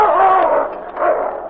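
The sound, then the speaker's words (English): A husky named King snarls and growls fiercely at a grizzly bear in two loud, harsh, sustained bursts, separated by a brief dip, with no voices present. “Growling and snapping, the grizzly turned to meet the husky.”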